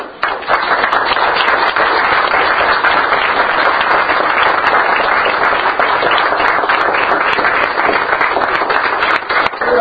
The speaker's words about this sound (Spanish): Y por último, y que no tiene que ver específicamente con esto, yo felicito a la gente que trabajó para la fiesta del centenario y pediría hasta un aplauso para ellos, porque eso es involucrarse.